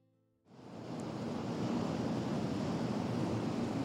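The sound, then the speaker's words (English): Surf surges in after a moment of quiet, then a steady, full roar of waves washing against the shore continues, with no voices. “There's few more evocative sounds than the lapping of the tide and waves crashing against the shore.”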